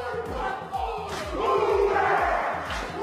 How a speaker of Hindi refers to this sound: आपने कभी ऐसा डांस देखा है जो चीख चिल्लाकर बदन पर थप्पड़ मारकर और चेहरे पर गुस्सा लाकर किया जाता है? ये न्यूजीलैंड का रिवायती हाका रक्स है,